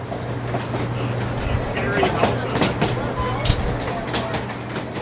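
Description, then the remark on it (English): A small park train with a bright red and yellow engine rumbles along its rails with a steady low engine hum and irregular clacks of the wheels, fairly loud throughout, with faint voices in the background. “So did you ride the train? Tell me you rode the train.”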